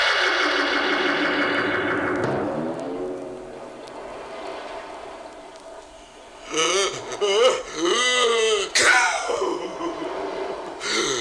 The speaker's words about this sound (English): Wow, that was some sneeze. Wonder where it came from. It must be that walrus over there.